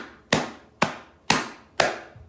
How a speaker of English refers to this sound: And it's going to be chilly. And you're probably going to be wearing these gloves. Now listen to what it sounds like when you clap with gloves.